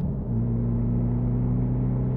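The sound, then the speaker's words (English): A car engine drones steadily at a high, even pitch as the car drives fast, with a constant low rumble and no voices. “you're driving so fast.”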